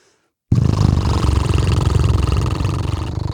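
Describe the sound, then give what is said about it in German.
A voiced lip trill, done as an exercise to loosen the lower jaw, begins abruptly after a short silence, lips blubbering in a loud, steady, motor-like flutter that holds one low pitch for about three seconds. “Und das können wir jetzt mal zusammen machen, die Lippen blubbern lassen.”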